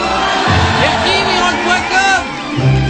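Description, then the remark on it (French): A crowd applauds and cheers steadily for about three seconds, applauding a young performer once more, with whoops and shouts rising above a dense, loud wash of clapping and voices. “On l'applaudit encore une petite fois.”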